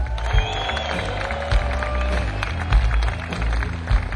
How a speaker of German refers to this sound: Und hier, an dieser Seite, Wahnsinns Keyboarder. Ladies and Gentlemen, riesen Applaus für ….